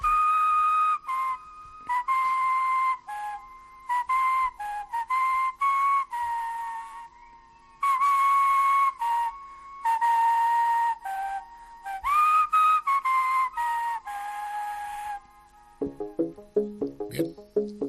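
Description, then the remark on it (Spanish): A man, famous for his way of whistling, whistles a bright, wandering melody in clear phrases of short and held notes, before a brief burst of plucked musical notes takes over at the end. “… es famoso por su manera de silbar.”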